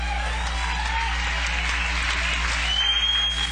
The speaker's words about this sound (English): How about a nice round of applause for him?